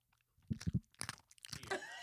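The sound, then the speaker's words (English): A dog crunches a hard buffalo pretzel treat: three sharp, loud bites in quick succession, followed by a scattered run of crackly chewing noises. No voices. “Good crunch.”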